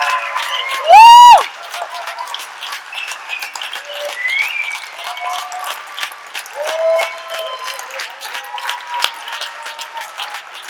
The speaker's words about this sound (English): Now that they're all here, can we give them a huge hand?